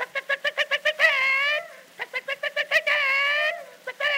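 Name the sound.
chickens clucking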